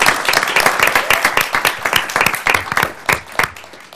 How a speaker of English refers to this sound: Well, let's give them a round of applause. To the East Portland Action Plan.